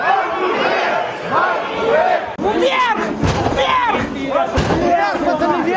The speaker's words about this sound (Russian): После того, как на сессию не пустили депутата Верховной Рады, главу Одесской областной организации «Свободы» Павла Кириленко, националисты снесли металлическое ограждение и начали выбивать двери.